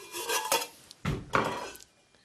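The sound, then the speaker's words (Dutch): Metal cookware clanks and scrapes as a large pot, used to boil water with a little salt for macaroni, is shifted and set down, with two bursts of bright, ringing clatter separated by a short pause. No one speaks. “Hebben ook een pan natuurlijk voor nodig. Neem een grote pan.”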